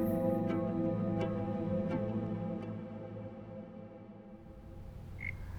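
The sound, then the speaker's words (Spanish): A pet frog gives a low, buzzing croak that drones steadily, with sharp clicking ticks spaced about every second over the first few seconds, then a faint high chirp near the end. No one speaks. “Aléjate de la rana.”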